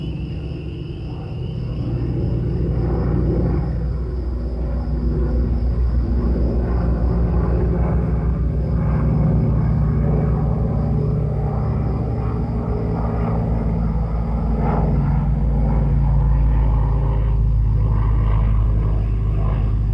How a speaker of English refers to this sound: Airplane carried sleeping travelers from one city to another.